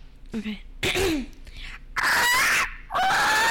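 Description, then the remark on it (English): A person imitates a parrot with a few short chirpy squeaks, then two long, loud, harsh screeches, clear with no other voices. “Do your parrot impression.”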